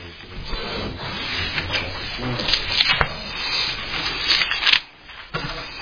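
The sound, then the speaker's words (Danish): Steady rustling of paper as book pages are flipped to the day's scripture text, a series of soft swishes and crinkles with a brief pause near the end before the leafing resumes. “så vælger jeg bladeren til dagens tekst, som er Filipperbrevet kapitel 4”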